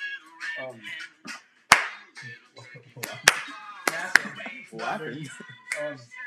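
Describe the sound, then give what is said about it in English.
Sharp, loud hand claps land irregularly, about five in all, some in quick pairs, cutting through a steady stream of rhythmic rapping voice in a Thanksgiving rap about food. “Just rapping. Clapping.”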